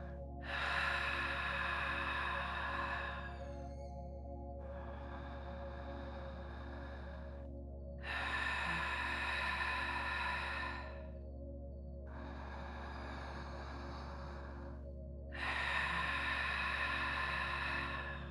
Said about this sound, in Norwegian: Mens du puster ut, legger du til et hvesende lyden lager du ved å knipe lett sammen nederst i halsen, mens du presser frem luften. Pust ut et par ganger på denne måten til du får taket på det.